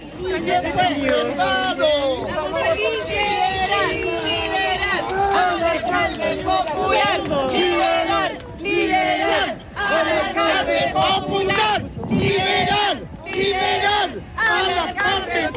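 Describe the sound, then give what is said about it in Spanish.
A crowd of supporters chants and shouts together as former Recoleta mayor Daniel Jadue leaves the Centro de Justicia, in loud, rhythmic bursts, many voices overlapping continuously with brief dips between phrases and a steady roar of cheering underneath. “Sí, escuchamos un poco el ambiente de lo que es la salida de Daniel Jadue al Centro de Justicia.”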